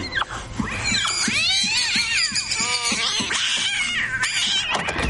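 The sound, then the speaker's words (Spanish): A cat yowls and screeches loudly as it pounces on someone, its harsh wavering cries rising and falling in a tangled burst over a rough scuffling background. “El gato la libera y se echa encima.”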